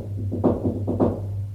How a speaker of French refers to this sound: Enfin, il la trouve. Frappe à la porte.